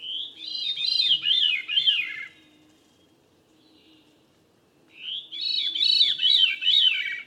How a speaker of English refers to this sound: Or a thrush, like this veery.